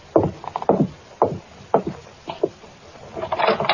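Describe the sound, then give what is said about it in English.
Firm knocking on a wooden door by a detective from headquarters: four evenly spaced solid raps, then two quicker ones, followed by a brief scraping rustle. No voices. “Now, answer the door.”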